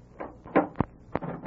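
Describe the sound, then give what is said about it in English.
A door being opened, with a few sharp clunks and rattles of the latch and handle spaced over a second or so, and no one speaking. “Open this door.”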